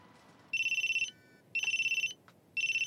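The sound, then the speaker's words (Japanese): Onizuka-sensei's mobile phone rings in three repeated bursts of rapid trilling electronic tones, each about half a second long with short pauses between, loud with no one speaking. “鬼塚先生、携帯鳴ってますよ。”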